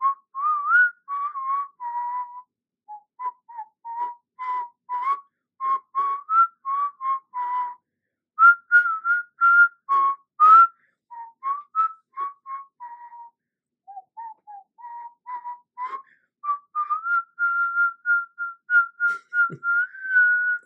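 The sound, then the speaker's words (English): A person whistles a pop song melody, a steady run of short, bouncing notes rising and falling in phrases for about twenty seconds, with no talking. “So what I'm going to do is I'm going to whistle and see if you can guess that tune.”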